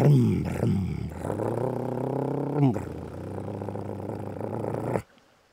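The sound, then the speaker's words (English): An XR650 dirt bike engine blips twice in quick revs, then settles into a loud, steady roar with another sharp rev midway, before cutting off abruptly into near silence. “I roared up and down the hills, out of Alberta and Arcadia, a little nervous at first about starting my longest enduro ride.”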